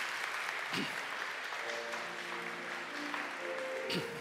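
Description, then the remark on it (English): An audience at a church service claps steadily in recognition after a blessing, a dense wash of many hands for several seconds, with a faint voice murmuring beneath the applause. “Let us offer our applause by way of recognition.”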